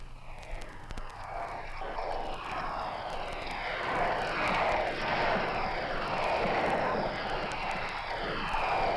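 A large crowd roars and cheers continuously as a royal wedding procession with the sovereign's escort passes through the square toward the west door of the abbey, the sound swelling steadily louder as it builds into a sustained wall of noise.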